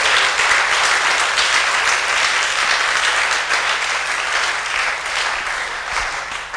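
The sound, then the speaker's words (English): A crowd applauds steadily, a dense wash of many hands clapping at once, sustained at an even, fairly loud level throughout with no voices standing out. “Can you put your hands together?”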